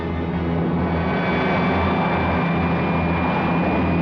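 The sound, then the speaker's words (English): A loud, steady airplane engine roar fills the scene as a plane carrying frantic passengers falls, with a deep low rumble and a constant high whine, sustained without a break. “behind him, a plane load of frantic passengers. Ted, we're falling, Ted, we're falling!”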